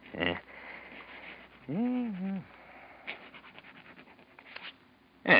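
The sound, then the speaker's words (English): Brief scratchy strokes of a pen on paper as someone writes their name, coming in short bursts with pauses between them, fairly quiet; a short hummed voice rises and falls partway through. “Write your name on this piece of paper.”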